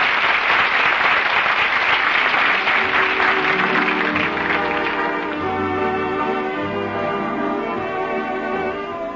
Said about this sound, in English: The audience is on its feet applauding. Miss Lottie and Mr. Soleil are bowing in front of the footlights. The play is a hit. Did the first nighters like it? Listen to that applause.